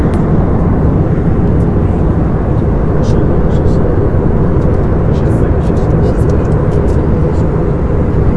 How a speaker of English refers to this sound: So this is me on an airplane.